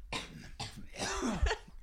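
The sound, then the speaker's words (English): A string of staged, exaggerated coughs performed as a sound effect for a Code Red Mountain Dew commercial skit, portraying a man coughing after hitting his vape too hard: several harsh bursts in quick succession, ending with a strained, throaty hack; no talking. “That's not real coughing.”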